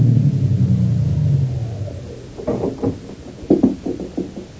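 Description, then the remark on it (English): A big limousine drives up to the only entrance of the Greystone estate in June 1922 with a deep, steady engine rumble that eases off and dies away, followed by a series of irregular crunching thumps as it comes to a stop; no one speaks. “a big car drove up to the only entrance. In the back seat of the limousine”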